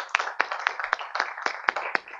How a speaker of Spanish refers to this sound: deseo que le brindemos un fuerte aplauso a nuestros ponentes el día de hoy.